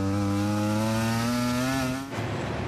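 Jorge Martín's racing motorcycle screams past at high revs as it crosses the finish line with 16 laps to go on a 4.5 km circuit, its loud buzzing whine climbing steadily before abruptly dropping as it passes, leaving a rougher, fading engine roar. No one speaks.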